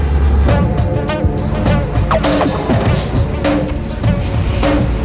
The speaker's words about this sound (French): mais au ras du sol, très concrètement, il y a trois camions italiens qui viennent de passer, il y en a un quatrième qui passe, un cinquième derrière, ouais, voilà.